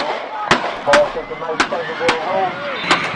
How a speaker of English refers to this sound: Six gunshots at a high school football game in South Jersey. You can hear panicked fans and players trying to escape with their lives.